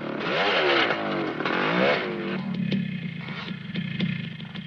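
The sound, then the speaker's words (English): A motorbike engine revs loudly in rising and falling surges, then settles into a steady, rattling drone as the bike zooms away across scrub. No voices. “zooms off across the scrub on the bike.”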